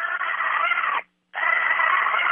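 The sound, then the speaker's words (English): A mother pig lets out two long, harsh squealing grunts, separated by a brief silent pause, with no talking. “That's a mama pig.”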